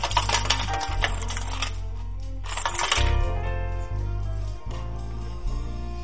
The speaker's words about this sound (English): And as they dropped their coins in, it sounded like this.